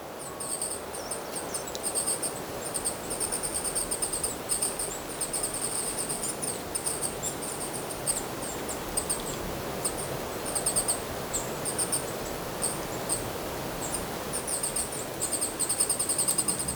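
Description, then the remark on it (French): Birds twitter in a steady, high-pitched stream of rapid chirps, continuing throughout over a soft, constant outdoor hiss, with no voices. “Des gazouillis.”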